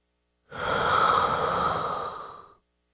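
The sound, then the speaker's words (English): A single slow, deep breath, a soft airy rush lasting about two seconds that swells quickly and then gradually fades, with silence before and after. “My mother's breathing was slowing.”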